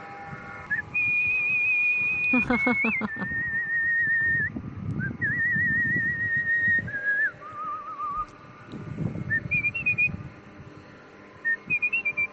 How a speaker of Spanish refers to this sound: Pues mira, te traigo al silbador más habilidoso de toda la gente.